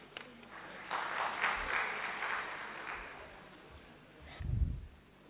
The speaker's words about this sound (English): Let us give a clap for that.